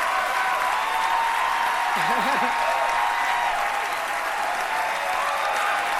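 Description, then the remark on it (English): Dense, steady applause from an audience fills the whole stretch at a constant loud level, with a brief wavering voice rising through it around the middle. “Everyone's clapping.”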